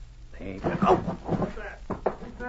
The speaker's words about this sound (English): The Mountie pushed it quietly, and to Jim's astonishment it swung on its hinges. They entered a darkened room, shutting the door behind them.